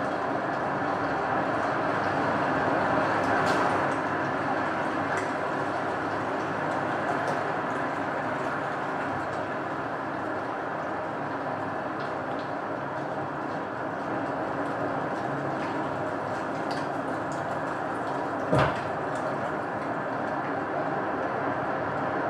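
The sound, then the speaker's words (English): A deep, steady roar of wind gusting down a valley toward a canopy, swelling slightly at the start, with a single brief, meaty thump of something hitting the snowpack near the end. “I really like how the wind comes down the valley and you get these gusts that come in for 20 or 30 seconds.”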